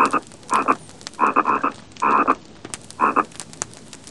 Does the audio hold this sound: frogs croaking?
yes